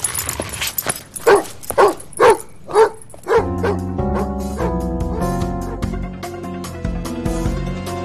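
dog barking and whimpering

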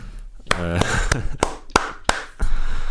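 clapping

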